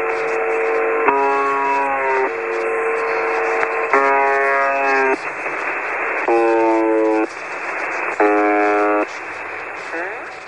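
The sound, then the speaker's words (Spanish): The mysterious shortwave radio station UV-76, which has broadcast for decades, sends a series of harsh buzzing tones, about five bursts of a second or so each, some wavering in pitch, over a steady bed of static hiss. “Pero esto apenas son zumbidos.”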